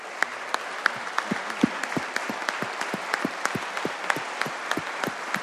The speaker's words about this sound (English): And then if everyone that's here today in support of Bailey's Law, if you would please stand in the House, give them a round of applause.